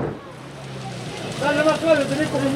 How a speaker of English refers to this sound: In Quintay's tiny harbour, fishermen hose down their boats and gut their catch.